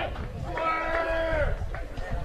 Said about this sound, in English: You can hear the McDonald dugout getting a little noisier here, cheering on some of their teammates that always, sure, push them in practice, but may not get as much game action.